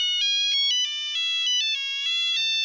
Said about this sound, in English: If Vescu's phone was going to ring, it was going to make the sounds he wanted, on his terms.